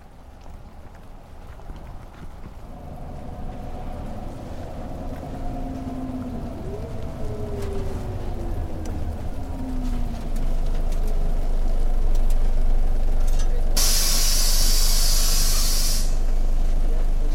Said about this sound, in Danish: Det er morgen i Brastrup, og det regner. Claus og jeg siger farvel på busstationen.